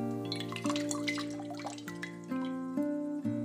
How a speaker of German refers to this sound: Vorsichtig schöpfst du das Wasser und befeuchtest dein Gesicht.